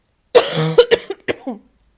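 coughing

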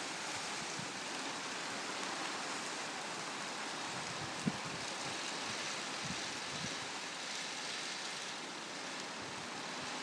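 rain falling outside

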